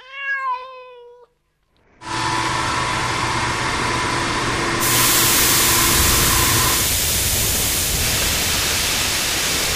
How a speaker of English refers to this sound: Blimey, I'm tired of this rain. Yeah. It sucks right into your bones this time of year.